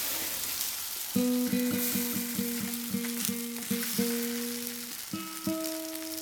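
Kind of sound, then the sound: food or drink, food frying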